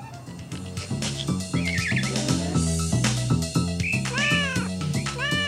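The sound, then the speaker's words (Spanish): A cat meows several times, its rising and falling cries drawn out and fairly loud, sounding over a steady, rhythmic musical backing with no one talking. “Pobre Rayo Gato. Lleva una vida tan solitaria.”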